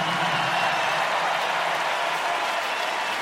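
Sustained applause from a large crowd at a rock concert as a drummer is introduced on stage, a dense steady wash of many hands clapping at an even loudness throughout, with no voices standing out.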